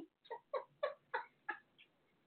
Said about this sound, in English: But, you know, there's my cat. If you hear him, he goes, go Trump.